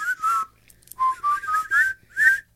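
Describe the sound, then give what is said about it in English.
A whistled march tune from the film Bridge Over the River Kwai, several short melodic phrases in a bouncy rhythm, clear, with brief pauses between bursts and no talking. “It was all you do to keep from whistling.”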